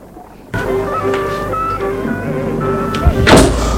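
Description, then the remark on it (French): A servant shuts a door with a soft thud and a brief latch clatter near the end, set against a steady background of tonal, music-like sound. “Le domestique a fermé la porte.”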